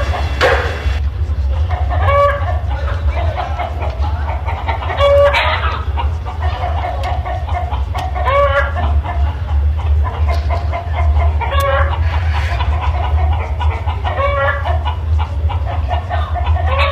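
A flock of chickens clucks continuously while a rooster crows several times, loud, over a steady low rumbling background.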